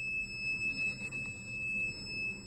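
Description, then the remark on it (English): A shrill, steady electronic alarm tone, like a smoke detector, rings without pause for the whole stretch over a low, rumbling background, muffled and heard from floors away, in the Patriot Pod cell block of the DC jail where January 6th detainees are held. “Is that awful? Right? It's like a smoke detector.”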